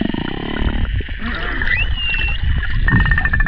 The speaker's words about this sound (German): Die Sprache der Orcas ist vielfältig. Da gibt es ein Knurren, ein Pfeifen und vieles mehr.